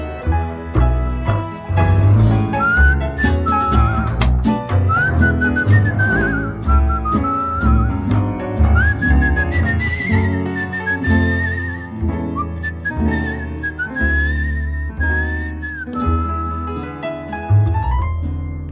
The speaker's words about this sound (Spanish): Déjame que te silbe una canción.